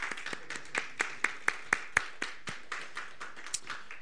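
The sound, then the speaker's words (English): A small crowd at a church service applauds with crisp hand claps in a fairly steady rhythm, swelling briefly midway and then thinning out; no one speaks over it. “Everybody, let's give a round of applause”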